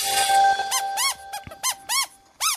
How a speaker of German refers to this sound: Das ist eine von 29.000 Quietscheentchen und anderen Gummiplanschtieren, die im Dienst der Wissenschaft stehen, wenn auch unbeabsichtigt. Sie gehörten ursprünglich zu der Ladung eines Frachtschiffs, das im Januar vor 27 Jahren im Pazifik unterwegs